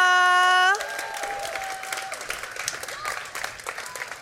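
A held musical note cuts off after a moment, giving way to a steady burst of audience applause for a poet at a poetry event, dense rapid clapping with crowd noise mixed in, continuing at an even loudness to the end.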